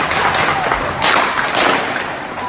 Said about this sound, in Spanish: Y todo estalla cuando la policía empieza a disparar y a batir a la gente que se estaba manifestando. Las grabaciones y los sonidos son increíbles, terribles. ¡Están disparando!